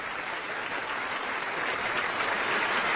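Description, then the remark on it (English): A crowd of members of Congress and guests applauds steadily as the President of the United States is presented, a dense wash of many hands clapping that holds strong and even throughout, growing slightly louder toward the end. “And of course, now we're gonna have a round of applause.”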